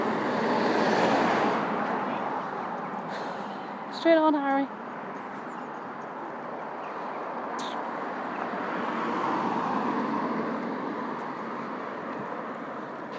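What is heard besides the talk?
road traffic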